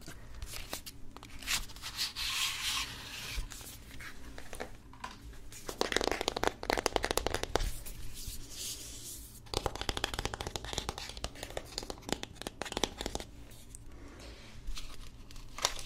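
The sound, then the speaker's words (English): The box of a new Goddesses makeup palette is opened, with steady rustling, scraping and crinkling of cardboard and paper packaging in bursts over several seconds, no voices. “Open the box.”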